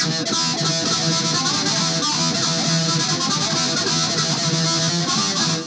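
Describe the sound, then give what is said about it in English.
A heavily distorted metal guitar chugs out a thick, saturated wall of sound, loud and steady from start to finish, with no voices. “Metal distortion.”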